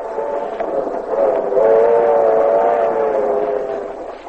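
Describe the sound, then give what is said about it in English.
A passenger train rolls steadily along, its continuous droning hum swelling slightly midway and then easing off, with no voices over it. “Then after breakfast, when the train stops at Jacksonville, we'll jump off and buy you a few things.”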